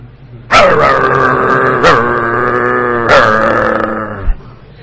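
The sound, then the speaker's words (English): A person imitates a territorial dog barking at another dog entering its territory: one sustained, throaty vocal run with three sharp accented bursts, loud, with no other talking. “dogs are very territorial. Another dog comes into their territory. What do the dogs do?”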